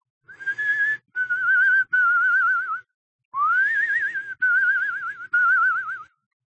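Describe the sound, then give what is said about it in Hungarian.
A tune is whistled alone, very faintly from upstairs, in several long, wavering notes with short pauses between them, rising into a vibrato-laden phrase after a brief silence. No one speaks. “Föntről egészen halkan ugyanazt a dallamot hallotta fütyülni.”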